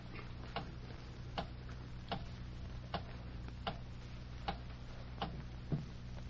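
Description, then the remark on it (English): A clock ticks steadily and evenly, about one sharp tick every three-quarters of a second, fairly quiet over a low steady hum, with no voices. “I'll be quiet and watch the clock.”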